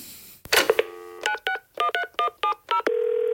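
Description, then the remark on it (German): A phone handset is picked up with a clatter, then about eight electronic keypad tones beep in quick, evenly spaced succession as a number is dialed, followed by a steady ringing tone. Clear, with no voices. “Wo ist mein Telefon?”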